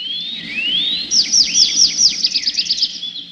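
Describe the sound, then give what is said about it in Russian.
A thrush sings a bright trilling song in a forest: a rising whistle, then a quick rhythmic run of about a dozen clear, falling chirps, fairly loud with no voices. “Согласился скворец, и в ту же минуту лес наполнился трелью дрозда.”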